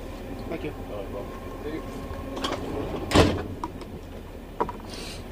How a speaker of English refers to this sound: That was our final ticket check. I wasn't expecting that either. Another person ripped open the door and wanted documentation from us, but three times we get the tickets checked.